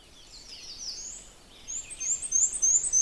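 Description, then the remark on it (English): A black-and-white warbler sings a thin, high-pitched series of rapid, squeaky two-part notes repeated in a steady rhythm, moderately faint, with no voices present. “Of course, black and white warbler is very easy to identify.”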